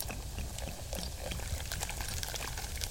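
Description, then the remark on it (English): Sparkling mineral water from a mountain spring pours steadily into a glass, with a continuous fizzy crackle of bursting bubbles and soft liquid gurgle throughout, no voices present. “Fresh bubbling mineral water from the mountain spring.”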